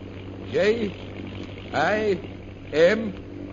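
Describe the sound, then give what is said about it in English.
A propeller airplane engine drones steadily throughout as the plane flies, circling low, a low continuous hum with a noisy wash, while three short voice-like bursts rise over it at roughly even intervals. “Hold the plane so that I can see that signal.”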